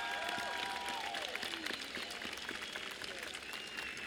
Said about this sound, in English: I want you guys to give him a round of applause, please.